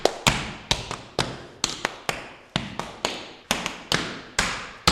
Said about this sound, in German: Wie hört sich das an, wenn du so einen Steppschritt machst? Ja, das hört sich an wie lautes Geklapper.